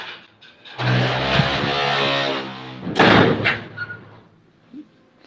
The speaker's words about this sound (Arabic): لحظة سكر الباب.